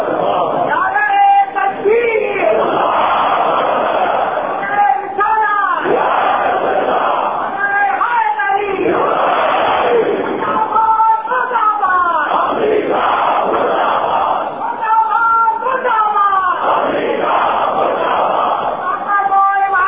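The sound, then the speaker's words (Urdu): A large crowd at a majlis chants slogans in loud, rhythmic unison, with repeated shouted phrases rising and falling steadily throughout, dense with no pause or quiet moment. “کہہ رہے تھے مولانا مجلس میں آپ کی بات خطرناک نعرے لگ رہے ہیں.”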